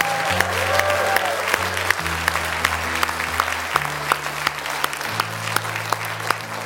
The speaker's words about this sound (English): Whew. Let's give the Lord a hand clap of praise again.